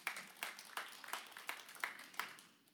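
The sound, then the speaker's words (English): An audience claps in a steady, even rhythm, about eight sharp claps in under three seconds, fairly faint with no voices over them. “Sure, you can clap.”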